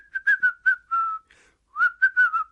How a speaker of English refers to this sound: Can you whistle or hum a song? I'm not very good at whistling, but I can go.